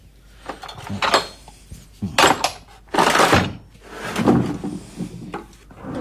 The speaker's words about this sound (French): Ça, c'est un marteau exprès. Voilà, comme ça. C'est juste pour tailler, toi. J'aime bien la taille de fer, moi. C'est le bruit, j'aime bien.